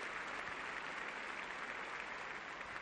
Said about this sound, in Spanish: Eso lo acaba de decir Casper Ruud a Rafa Nadal, que sonríe y aplaude desde su banquillo.